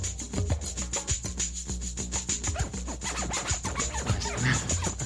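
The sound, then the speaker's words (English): Rapid digital scratching of a sample dragged onto a software scratch window and scrubbed back and forth with the mouse, a dense stream of short back-and-forth scrubbing bursts with a steady high hiss running underneath, moderately loud and without any talking. “Digital scratching is included, so any sample can be dragged onto the scratch window, and then using the mouse clicking, you can scratch back and forth through it.”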